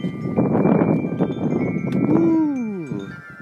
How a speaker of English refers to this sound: Hey, there's my friends, the Wind Chimes.